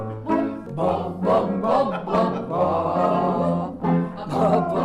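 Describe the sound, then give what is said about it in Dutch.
During a choir's vocal warm-up, several people let out short, playful bark-like vocal bursts in quick succession, layered over one another, with some held voiced tones mixed in. “Sommigen maken speelse, bijna blaffende geluiden.”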